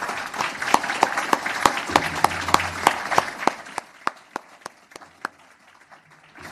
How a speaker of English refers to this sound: And if it's okay, I wouldn't mind a round of applause